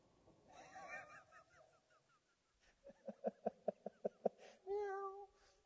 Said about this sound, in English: How would you like if your husband smelled like fish every time he came home? Cats following him.